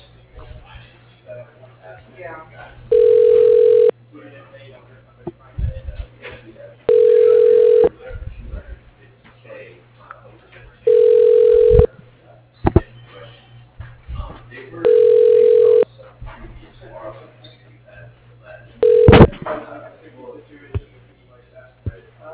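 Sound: telephone ringing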